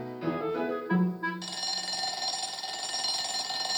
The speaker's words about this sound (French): La sonnerie retentit.